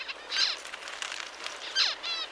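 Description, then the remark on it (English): High, bright calls of finch parents come in two short bursts of chirping notes with quick downward sweeps, each lasting under half a second, separated by a softer stretch of faint twittering. No one speaks. “Scientists are still figuring out how exactly this sound signal from the parents ends up changing their offspring's development.”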